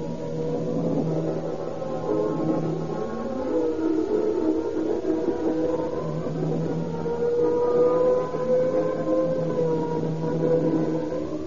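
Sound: fire engine siren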